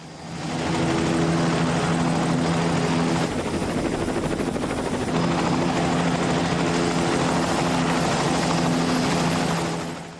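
A helicopter lifts off, its rotor chopping loudly and steadily while the engine whine holds constant, the sound filling the whole stretch without pause.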